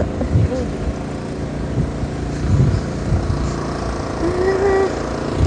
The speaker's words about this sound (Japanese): いやなんか工事もしてます。